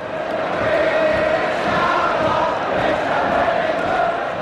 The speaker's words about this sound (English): Crowd singing at a Derby County versus Arsenal game.